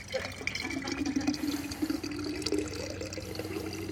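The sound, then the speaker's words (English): Water pours steadily out of a full container in a continuous splashing stream, fairly loud, with a rising gurgling tone. No one speaks. “Okay, let's see how much we can get out of here. This thing was full, But because of all the other stuff in here, it kind of limits how much we can take in.”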